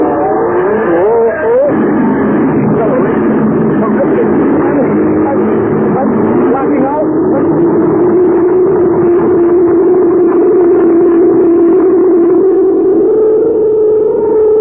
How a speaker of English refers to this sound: Swiftly, the dome-shaped ship from Galaxy 9 streaks out into space.